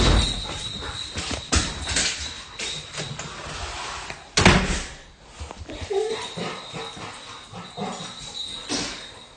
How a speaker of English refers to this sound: Okay, do you want me to open the door?